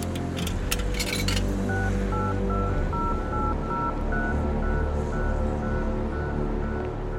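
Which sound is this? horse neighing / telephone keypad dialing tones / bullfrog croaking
telephone keypad dialing tones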